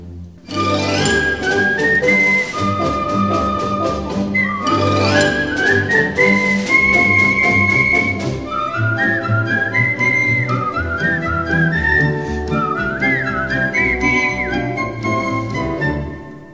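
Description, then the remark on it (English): A lilting tune is whistled over a full instrumental accompaniment, the melody sliding between notes and carrying on steadily for the whole stretch, with no talking. “They just whistle.”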